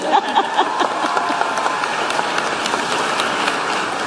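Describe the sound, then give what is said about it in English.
An audience applauds during a speech about President Joe Biden's legacy, a dense, crackling wash of many hands clapping steadily at an even loudness, with no voices rising above it. “At the you may clap part, I found myself involuntarily clapping alone at my computer.”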